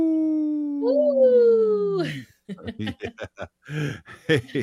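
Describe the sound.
A single long, wavering howl rises and then slides down, most likely a person imitating a wolf, held for about two seconds before talking begins, opening a Howling for Wolves segment on Native Roots Radio.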